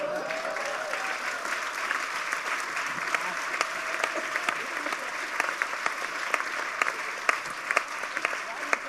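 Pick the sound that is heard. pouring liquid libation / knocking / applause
applause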